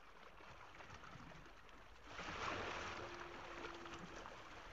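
Oars pulling a boat through water, with a steady wash of splashing and one stronger, surging stroke midway, heard up close and alone without any voices.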